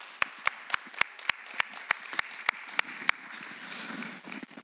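A short burst of applause: sharp, loud claps in a steady rhythm, roughly three per second, then trailing off into softer scattered clapping and murmur. No one speaks.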